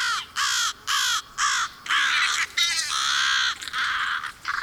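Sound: crows cawing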